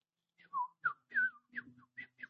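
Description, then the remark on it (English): A person whistles a quick series of about seven short, chirpy notes that slide and flutter in a high pitch, imitating a sparrow's call, with no talking. “That means hello from a sparrow.”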